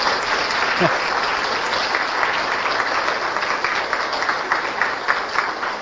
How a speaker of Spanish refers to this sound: Quiero ver cuántos niños han hecho la primera comunión el sábado. ¿Puede ponerse de pie los niños? Un aplauso por ellos.